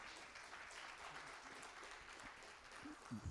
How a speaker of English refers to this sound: We welcome all the visitors to Bridge Hope Fellowship Church. Let's give them a hand clap for being with us today.